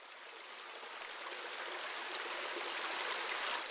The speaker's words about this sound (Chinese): 小溪流说话，哗哗，哗哗。